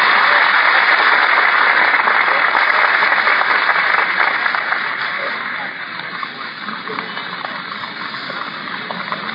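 A crowd claps in a dense, crackling wash of applause, loud and steady for several seconds before easing off to a softer, continuing patter until the end.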